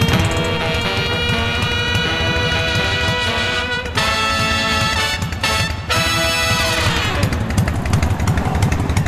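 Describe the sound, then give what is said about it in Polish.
A loud motorcycle engine runs steadily with a rough, pulsing rumble, briefly dropping off twice before revving back up, with no voices. “To wszystko są motocykliści. A motocykl mówi najwięcej o jego właścicielu.”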